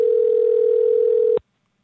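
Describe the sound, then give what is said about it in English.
A telephone rings on an outgoing call: one steady, loud electronic tone that holds for over a second, then cuts off abruptly into silence. No voices are heard. “And hopefully he'll answer the phone.”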